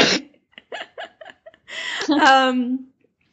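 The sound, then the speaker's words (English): A man trying to cough quietly coughs: one sharp burst, then a string of small, stifled coughs in quick succession, ending in a longer strained, voiced wheeze. “He's like dying, but he was trying to cough quietly because he wasn't sure.”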